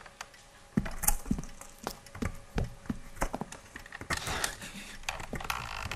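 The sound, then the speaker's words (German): Someone tries to open a door: a series of irregular mechanical clicks and knocks, like a handle or lock being worked repeatedly, with no voices. “Da war versucht jemand, die Tür zu öffnen.”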